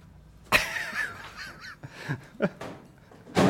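A loud bang against a door, then a wavering, squeaky creak and a few smaller knocks and rattles, ending in another heavy thud as the door gives way and is broken by a man.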